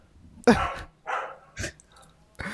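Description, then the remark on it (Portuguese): A dog barks four times in short, sharp bursts with uneven pauses between them, fairly loud, with no one talking over it. “Vem cá, esse cachorro é de qual áudio?”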